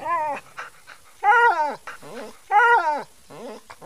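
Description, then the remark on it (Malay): A dog, dragged on a rope by a man and beaten with a piece of wood, yelps and whimpers in pain. It makes a series of high, wavering cries with two louder, drawn-out yelps in the middle, with no talking. “Laki-laki itu memukul si anjing dengan sebilah kayu. Anjing itu mendengking-dengking kesakitan.”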